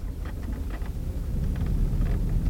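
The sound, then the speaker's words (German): A rattly old bus's engine rumbles low and steady, with loose clattering and small rattles scattered over it, as it travels from Lima over unpaved gravel roads. No voices. “Mit einem klapprigen Bus fährt Maria von Lima aus über unbefestigte Schotterpisten.”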